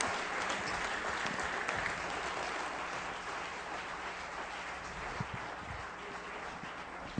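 An audience, called to its feet, claps steadily for several seconds to welcome a speaker, a dense wash of overlapping handclaps at an even loudness, with a few sharper isolated claps near the end.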